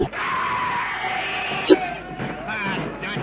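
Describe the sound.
A dense crowd of voices screams and yells together in a sustained, chaotic roar, loud, with a brief sharp accent partway through as the shouting surges: a screaming horde charging furiously in battle across a clearing.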